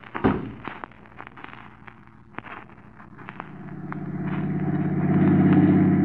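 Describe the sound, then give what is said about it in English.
A car engine starts rumbling and steadily builds as the car drives along behind another car, the low drone swelling louder toward the end, with a few sharp clicks and pops early on and no voices. “Will you pass that car in front of us, Crane?”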